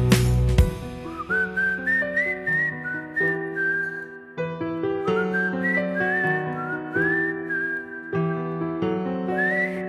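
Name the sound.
whistling a tune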